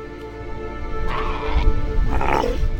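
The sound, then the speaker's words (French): Two hoarse, barking bellows from Australian sea lions, a protected species, on Kangaroo Island in southern Australia, the second rising then trailing off, over a steady background rumble with no one speaking. “Kangourou, située au sud de l'Australie, véritable paradis animal, où l'on croise des kangourous bien sûr, mais aussi des koalas, des ornithorynques, des otaries à fourrure et notre lion des mers, espèce protégée car en diminution depuis des années.”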